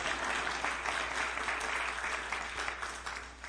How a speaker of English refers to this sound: You're supposed to clap at that.